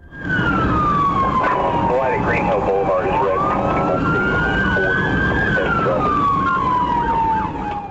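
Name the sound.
police car siren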